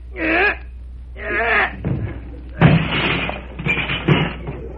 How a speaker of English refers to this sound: Oh, I always have trouble with that darn door.